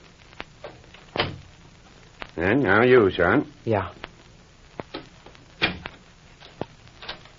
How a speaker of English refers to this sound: Hey, what do you mean by locking the door?